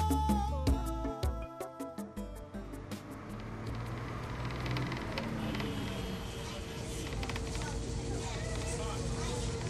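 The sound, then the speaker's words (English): A school bus pulls up with a steady engine rumble that fills the scene after a short burst of tonal, horn-like sound at the start, with faint voices in the background. “The school bus is coming.”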